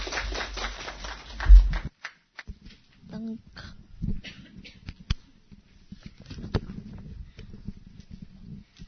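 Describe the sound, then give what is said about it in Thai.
A short burst of audience applause for two speakers at a talk fills the opening seconds, then thins into a few scattered claps and taps as people begin talking. “ขอเสียงปรบมือให้กับทั้งสองท่านเลยครับ”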